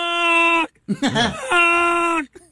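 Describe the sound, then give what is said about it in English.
Gary Busey imitates a goose call: two long, steady, buzzy nasal honks, split by a short warbling squawk that slides up and down in pitch. Loud, with no talk. “Here's his goose.”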